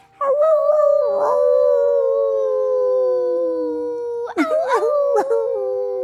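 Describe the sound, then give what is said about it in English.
Human voices imitate a wolf howl, one long sustained wavering tone sliding slowly downward for several seconds, then a burst of shorter rising and falling howls from several voices together, loud. “Do you want to howl with me?”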